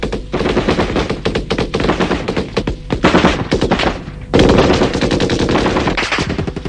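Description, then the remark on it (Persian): Sustained machine gun covering fire as soldiers advance into a minefield: dense rapid bursts of loud cracking shots rattling continuously for several seconds, with a sharper, louder burst partway through. No one speaks. “همچین داره آتیش میریزه انگار نه انگار که ما تو میدونه میریم.”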